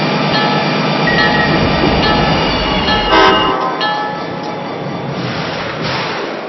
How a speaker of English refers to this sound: Your attention, please. Now arriving from Crystal Lake, the Operation North Pole train.